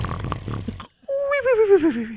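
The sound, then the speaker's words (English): A voice imitates loud snoring: a brief noisy rumble, a short pause, then a long nasal, wavering tone that slides steadily downward in pitch, like an exaggerated snore. “Ironically, I now snore like a buzzsaw”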